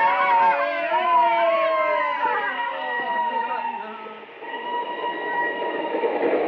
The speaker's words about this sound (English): The train was full of fellas, and the train raced on over the flatlands. The telegraph poles were passing, passing. The train went on and on.